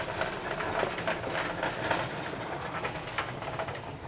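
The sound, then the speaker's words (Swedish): A metal roll cage trolley is rolled away to a worker's spot to pack the last items, rumbling along steadily for a few seconds, its wheels and frame giving off a continuous rattling clatter with no voices over it. “Nu ska vi rulla bort burvagnen till min plats.”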